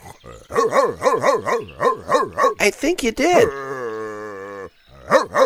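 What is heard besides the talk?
dog barking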